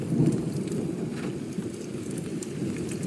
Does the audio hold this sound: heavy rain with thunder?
yes